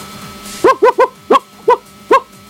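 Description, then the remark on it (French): A woman's voice imitates an agitated dog that sees a bandit, letting out six sharp, loud barks in quick, uneven succession, with nothing else around them. “fais-moi le bruit d'un chien qui voit un bandit.”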